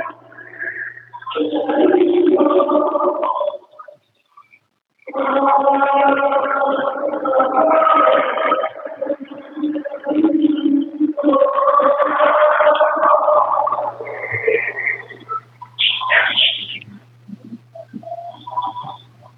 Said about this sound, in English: Do you hear the howl in the background? That's what he's hearing every day.